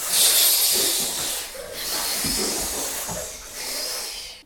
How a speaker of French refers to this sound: Ils marchent sur la plage. Le bruit des vagues.